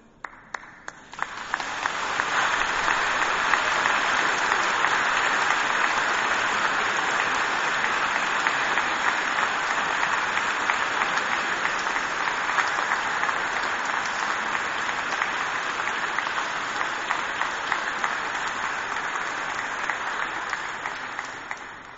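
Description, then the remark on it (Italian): Sustained applause from a church audience honoring its priest of 15 years, at a Mass for the feast of the Dedication of the Lateran Basilica: a dense, steady wash of many hands clapping that swells in after a quiet second and holds loud for about twenty seconds before tapering slightly at the end. “E allora prima di tutto domandiamo perdono al Signore anche di questo applauso che non merito io, ma la grazia di Dio che ha cercato il Signore di aiutarmi a fare del mio meglio.”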